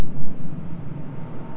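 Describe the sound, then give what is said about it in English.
A steady, low engine drone rumbles without a break as an airplane passes overhead, with no voices and only gentle swells in loudness. “I hear an airplane going over.”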